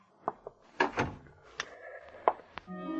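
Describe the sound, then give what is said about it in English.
A man holding a gun shuts a door: a few latch clicks and rattles, a solid thud, then a faint creak and more sharp clicks as it settles, with no one speaking. “After he closed the door, the man with the gun switched on the lights.”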